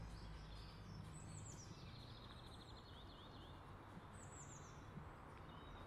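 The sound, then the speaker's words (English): Birdsong in the morning sun along a motorway road lined with big, mature trees: high, quick chirps and a rapid trilling run, repeating after a pause, heard over a steady, rushing background noise with no one talking. “A different bird song from my normal garden.”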